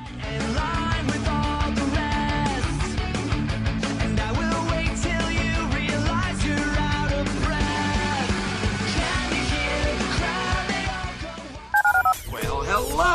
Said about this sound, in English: Dial the phone.